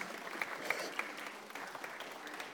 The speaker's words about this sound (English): Do we want to give him a round of applause? Oh! Yes.